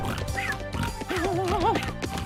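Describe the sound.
A voice imitates Goofy's quick cartoon snore, not the big loud snore, a steady loud run of throaty, buzzing vocal sounds that end in a wobbling, rising and falling pitched warble.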